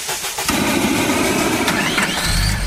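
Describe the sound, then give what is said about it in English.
A car engine cranks and catches, then settles into a loud, steady running rumble that deepens in the final moments, with no voices. “And it's highly flammable, so it's perfect to use as a car starting fluid on those cold winter mornings.”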